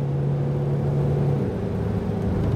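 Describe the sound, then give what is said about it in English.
The engine of a used 12-year-old Explorer from a car auction hums steadily from inside the vehicle while driving, a constant low rumble with a faint whirring tone and no voices. “Drives good. Doesn't sound terrible.”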